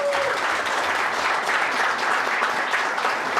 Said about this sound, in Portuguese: Para minha alegria e surpresa, tivemos grandes negociações de bastidores e o ministro, desculpe, o deputado federal e atual presidente do Brasil em exercício, Marco Maia, aceitou atender os grevistas em audiência. Para ele, uma salva de palmas.